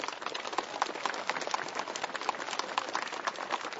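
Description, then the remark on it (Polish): An audience gathered from across the Archdiocese of Lublin applauds in thanks to God for good holidays, many hands clapping in a dense, steady patter that holds at an even level for a few seconds without any voices. “A zatem także oklaskami Panu Bogu dziękujemy za dobre wakacje.”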